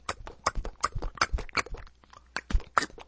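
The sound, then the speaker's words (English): A voice imitates horse hooves with quick tongue clicks, a steady clip-clop rhythm of sharp knocks repeated about a dozen times over a few seconds, with no talking. “I used to be able to do that really well when I was a kid. With a toy horse, anyway. Everyone else went, click, click, click.”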